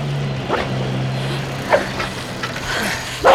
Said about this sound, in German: Am Waldrand angekommen, sahen sie nur noch ein grünes Auto zwischen den Bäumen, das auf einem Forstweg davon rollte.